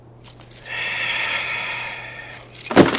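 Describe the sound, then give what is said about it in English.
A set of car keys for an '83 Buick Roadmaster jingles for a couple of seconds, a bright continuous metallic rattle, ending with a short clunk as they are set down. “He finally opened a greasy wallet from which he extracted a key.”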